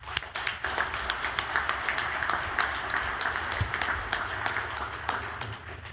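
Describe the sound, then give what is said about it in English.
A crowd applauds steadily to welcome representatives of the trade publication World Air Show News, many hands clapping in a dense, crackling wash that holds at an even, moderate loudness for several seconds with no voices over it. “Please make a welcome with your applause”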